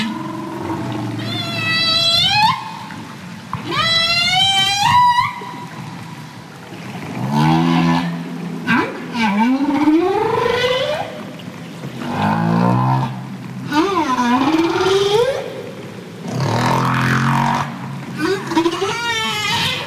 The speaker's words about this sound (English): And one thing that we do to counteract that problem is humpbacks often will produce songs. That's what they're known for, right?